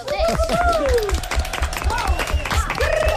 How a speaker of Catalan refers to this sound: Molt bé, molt bé, un aplaudiment.